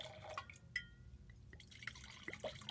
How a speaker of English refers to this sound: Pour me a splash. Okay. Oh, there we go. Yeah.